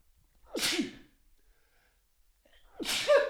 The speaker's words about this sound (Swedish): Nu måste jag nysa. Nej, inte i micken.